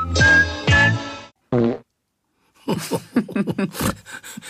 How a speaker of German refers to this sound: Vielleicht bringt er ihnen gerade bei, wie man mit den Flügeln Furzgeräusche macht und zaubert so ein bisschen Wahnsinn auf die himmlische Showtreppe.